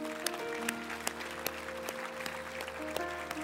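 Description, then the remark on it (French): A church audience claps steadily for the Lord at a morning service. A dense wash of many hands with a few sharper individual claps standing out, over a sustained low hum and organ-like tones; no one speaks. “Est-ce qu'on peut applaudir le Seigneur ce matin?”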